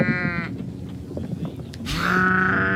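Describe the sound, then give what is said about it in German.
Two sheep bleat in turn, a wavering harmonic call followed by a louder, longer bleat, heard clear over a faint outdoor background with no talking. “das hat immer ein Tier. Heute das Schaf.”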